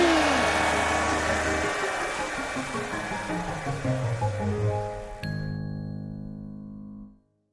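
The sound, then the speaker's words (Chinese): A hair dryer blows with a steady, loud whoosh and a whining motor pitch that wavers and slides downward, then the airflow cuts off, leaving a held ringing tone that fades out. “嘿嘿，我是吹风机，替人吹头发真开心。看我吹！”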